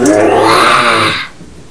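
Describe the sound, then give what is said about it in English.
A child's voice gives one long, raspy roar in imitation of a lion, loud and harmonic, holding for about a second before cutting off into quiet. “The lion's doing this. Roar.”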